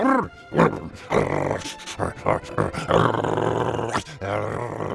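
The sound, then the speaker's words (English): A dog growls in a rough, rumbling series of snarls, rising and falling in intensity with brief pauses between bursts, then one long sustained growl near the end. “the other dog didn't drop his bone. He just stared back at Apollo. So Apollo tried even harder.”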